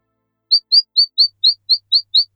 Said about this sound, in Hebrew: אני לא באמת לבד, יש פה עוד כמה חברות קטנות. שתי ציפורים אם אני מזהה נכון בחושך.